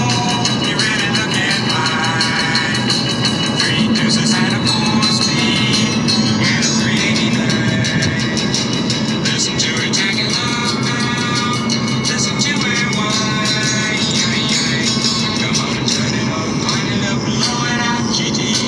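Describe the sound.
Loud, steady road noise inside a moving car: a constant low rumble and broad hiss that never lets up, with indistinct voices faintly mixed in underneath.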